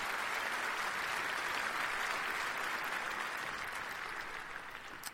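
A steady round of audience applause, a dense wash of many hands clapping at an even level before tapering slightly toward the end, with no voices on top.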